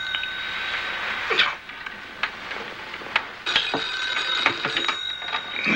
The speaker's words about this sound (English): The phone rings in a bedroom.